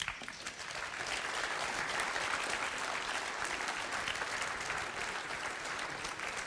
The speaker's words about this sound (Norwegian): Nå det slik at det har vært flere foredragsholdere på scenen underveis. Jeg vil be de reise, og så gir vi dem en felles applaus og en t-skjorte.